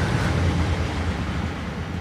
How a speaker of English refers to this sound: Incoming train. Chugga, chugga, chugga, chugga.